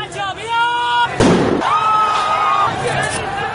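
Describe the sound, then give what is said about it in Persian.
A crowd of Iranian protesters marching against the government shouts and cries out, a single sharp gunshot cracks loudly about a second in, and a long, high wailing voice rises above the agitated crowd afterward. “فیلم هایی که از راهپیمایی های معترضان در اینترنت منتشر شده تلفیقی از صداهای مردم، شلیک گلوله و شیون جمعیت است.”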